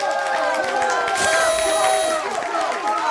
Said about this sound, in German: Boah, das ist immer ein langer Applaus.